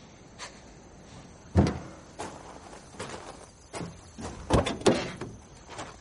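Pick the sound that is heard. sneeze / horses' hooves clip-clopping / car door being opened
car door being opened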